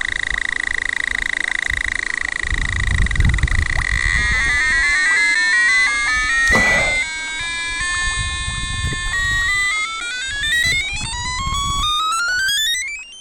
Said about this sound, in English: So, yeah, the video does show it's got an audio alarm on it, and you can hear the audio alarm just really ringing, you know, off its head. It's quite disturbing.